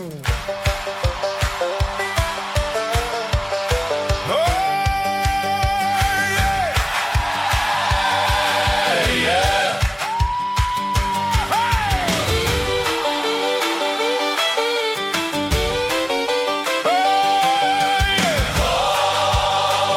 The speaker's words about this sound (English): Well, okay, y'all, get ready. This is some knee-slapping gospel coming up here. I'm telling you, that's a Holy Ghost gospel.